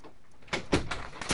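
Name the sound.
door closing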